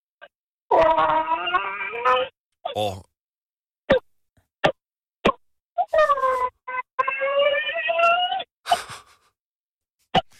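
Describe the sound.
A phone caller from Brovst imitates a hen with two long, warbling, nasal calls, with short sharp clicking clucks scattered between and after them. Loud and alone, with no other talk.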